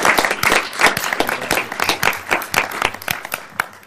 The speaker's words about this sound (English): Let's give the youth a round of applause. That's great. Congratulations.